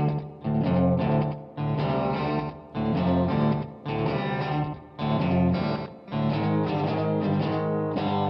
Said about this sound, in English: You like that fuzzy sound you hear? I do. It's crunchy.